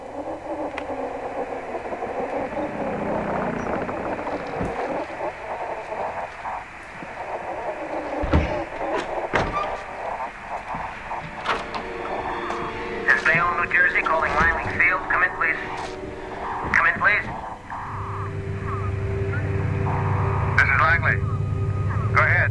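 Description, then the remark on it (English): A steady, rumbling drone of the engines of eight bombers over Jersey Flats, New Jersey, fills the scene, thickening into a heavier low roar near the end, with crackly radio-style voices talking over it. “Eight bombers are engaging with enemy tripod machines over Jersey Flats.”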